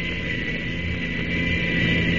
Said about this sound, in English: That sounds fine. Just like a real plane.